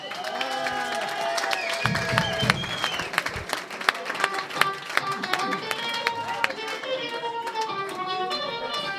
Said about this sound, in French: Et j'aimerais qu'on applaudisse la FJC de Mont-Blanc, si c'est possible.